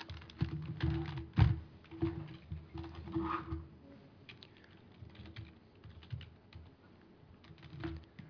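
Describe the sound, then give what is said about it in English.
Bursts of computer keyboard typing while creating a new software template, a flurry of clacky keystrokes with one heavier thunk early on, then lighter, scattered taps trailing off, with a low hum underneath and no talking. “Let me see if this keyboard will reach.”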